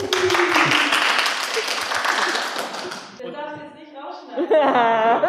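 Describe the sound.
A group claps together in a dense, steady burst of applause for about three seconds, then it fades and voices take over, with some laughter near the end.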